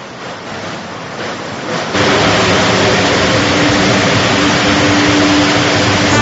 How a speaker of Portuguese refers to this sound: Olha, não sei se você que está nos ouvindo agora, em qualquer lugar que você esteja para esse mundão de meu Deus, se você consegue ouvir o barulho da chuva aqui na Valor de Betim, ó.